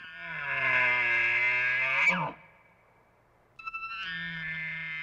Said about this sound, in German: So klingt ein Elch in der Brunft aus dem Geräuscharchiv. Solche Rufe sollen zur Brunftzeit im Herbst auch in Brandenburg zu hören sein.